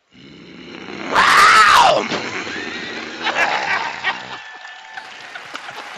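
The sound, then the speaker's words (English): A man lets out a loud, rough growl for the Panthers lasting about a second, its pitch rising and then falling, followed by a crowd cheering and clapping. “So what do you do when you're not growling for the Panthers?”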